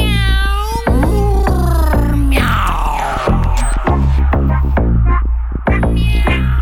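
Loud, drawn-out meows with sliding pitch from a Cheshire cat character singing in a song battle in a studio, repeated several times over a steady, thumping rhythmic beat, prominent throughout.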